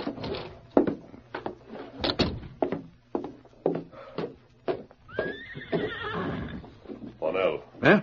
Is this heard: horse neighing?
yes